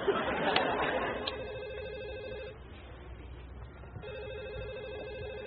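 A telephone rings in two sustained electronic bursts separated by a short pause, steady, with a murmur of background chatter at the start.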